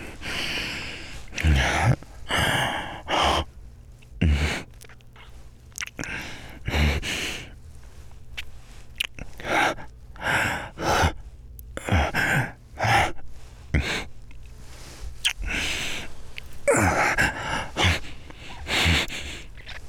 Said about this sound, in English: Except for maybe some deep fucking breathing.